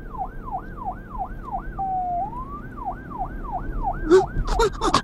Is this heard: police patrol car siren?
yes